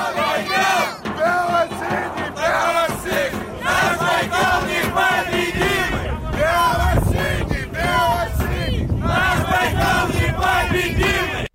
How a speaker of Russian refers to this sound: А дай нам еще послушать фан-сектор Байкал Энергии. Давайте послушаем, как поет стадион.